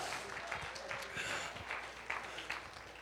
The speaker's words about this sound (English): Somebody give the Lord a hand clap of praise and a shout of triumph.